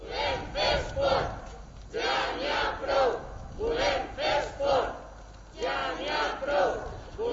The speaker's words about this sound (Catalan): Amb aquest crit, una quarantena de persones es concentrava aquest cap de setmana per reivindicar que es permeti la pràctica de l'esport interior, almenys els entrenaments.